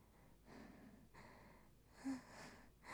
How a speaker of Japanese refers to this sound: はぁはぁ言いながら終わっていいのかな。大丈夫かな。